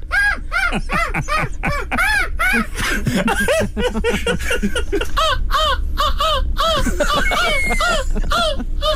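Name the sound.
people imitating seagull cries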